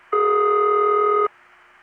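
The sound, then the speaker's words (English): A single steady ringback tone from an independent (non-Bell System) telephone company, a type found in General Telephone areas such as West Los Angeles and Tampa Bay, sounds for just over a second: a loud, flat electronic buzz of two stacked pitches, starting and stopping abruptly over faint line hum. “It is, however, one of the independent rings that I gave a name to because it is found in general telephone areas, such as West Los Angeles and the Tampa Bay area”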